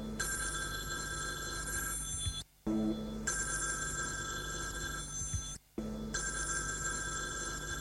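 A telephone rings in long, bright bursts, three rings separated by brief pauses, loud with no one speaking.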